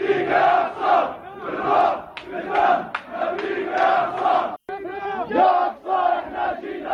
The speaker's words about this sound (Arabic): فقد عمدت شرطة الاحتلال إلى إغلاقه أمام المصلين، إلا أن المئات منهم تجمهروا أمامه مطالبين بفتحه قبل أن ينجحوا في الدخول وسط الهتافات والتكبيرات وأداء صلاة الفجر في مصلياته وباحاته.